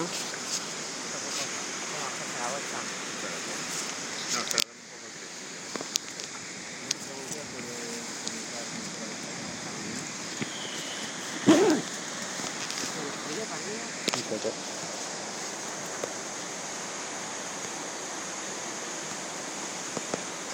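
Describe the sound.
The Kibune River flows in a steady, unbroken rush of hissing, splashing water for the whole stretch, with a brief dip in level early on and faint voices murmuring beneath it at times.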